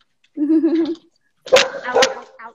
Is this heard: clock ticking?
no